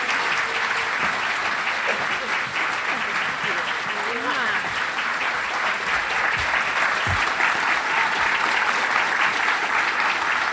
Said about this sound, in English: Give Rashida Jones a round of applause.